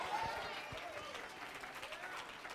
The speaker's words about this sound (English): That's a little polite applause. You're not nearly as excited about that as you ought to be.